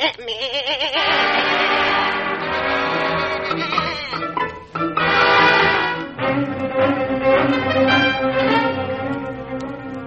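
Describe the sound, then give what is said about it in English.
A goat bleats loudly, a wavering, quavering cry at the start, followed by more drawn-out bleating calls that continue throughout with a thick, harmonic, almost laugh-like tone. “With this goat, you could easy find us again.”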